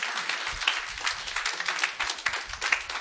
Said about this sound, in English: Come on, clap your hands unto God. He will bless the church.